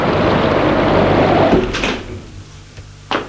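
A door opens as someone enters, with a long, loud scraping rush of noise, then quieter shuffling follows, ending in a sharp clunk as it settles. No one speaks.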